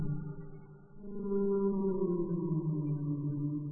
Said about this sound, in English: Whales also like to sing, but they don't sing songs like we do. Whales have deep, echoing voices that can be heard under the water.